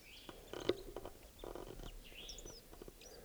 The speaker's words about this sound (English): I'm pointed at another bird up in the tree here. I'm doing a soft song. It's probably a male. I don't see the bird though.